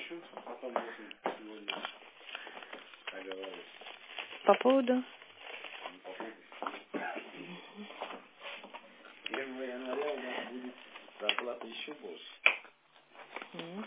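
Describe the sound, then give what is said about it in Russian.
A wet, dirty plastic bag crinkles and rustles in irregular bursts, its crackling handling noise mixed in with people talking over it throughout. “Привет, у меня здесь, обнимаю, иди, обнимаю, грязный, мокрый, бомж пакет.”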